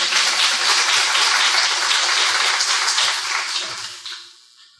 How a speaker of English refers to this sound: So if you could give him a round of applause, please.